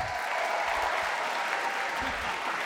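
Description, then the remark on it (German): An audience applauds a musician, songwriter of the musical, at a grand piano on stage: a dense, even wash of many hands clapping that holds at a constant level for the full few seconds, with no voices standing out. “Viel Applaus für den brandiosen ….”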